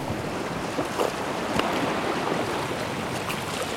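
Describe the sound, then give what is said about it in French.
Steady wind roars across an open shoreline on an east face totally exposed to the wind, while surf churns continuously underneath, with brief gusts buffeting the microphone. No voices, just a dense, unbroken wash of noise. “Par rapport à la face est, totalement exposée au vent.”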